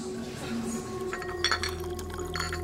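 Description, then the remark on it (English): Teacups clink together in a toast at an evening tea at a host's house on December 22nd, 1799, a few quick bright taps over a steady low hum with faint background murmur. “Cheers. Cheers. Good friends and good tea.”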